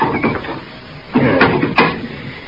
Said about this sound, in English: Now, we just open the door, Marshal, and maybe he'll come out.